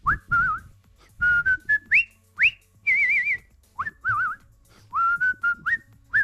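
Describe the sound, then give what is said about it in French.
A whistler whistles a lively, warbling melody with trills and quick upward slides, clear, in short phrases separated by brief pauses, on radio. “Et enfin, on termine cette parenthèse de nostalgie avec de grands moments d'émotion sur notre antenne avec le siffleur …,”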